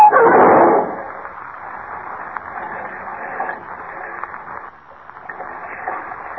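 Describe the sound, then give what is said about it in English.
A loud, heavy crash of a car at 65 breaking through an iron bridge guardrail bursts out at the start, then gives way to a steady churning, rushing noise of the swirling river below as the car plunges in, lasting several seconds, with no voices. “Flashing through the iron guardrail, the car plunges to the swirling river below, with Kent and Jimmy trapped behind its closed doors.”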